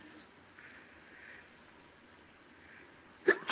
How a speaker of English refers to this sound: Excuse me, I had to sneeze.